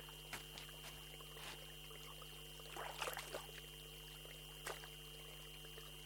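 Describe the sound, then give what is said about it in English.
Water from a mineral-rich spring in Haftqar Valley trickles and flows faintly and steadily, with a few brief splashy bursts, over a constant low electrical hum. No one speaks. “The sound of this spring makes me calm.”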